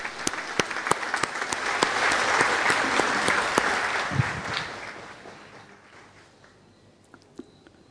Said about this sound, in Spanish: Por eso, Monseñor Marcelo Benítez, obispo de la diócesis de Caazapá, bienvenido con este fuerte aplauso.